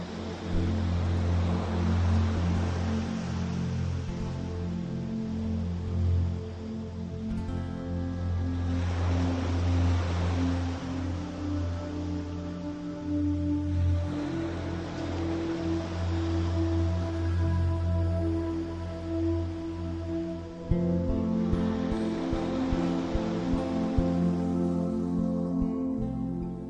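Waves break some distance from the shore and crash against a stone breakwater in repeated surging bursts about every six seconds, white peaks rising in a line, each swelling and then hissing away over a steady low rumble. No one speaks.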